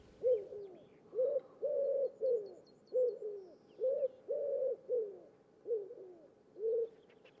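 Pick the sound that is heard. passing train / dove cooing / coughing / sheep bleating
dove cooing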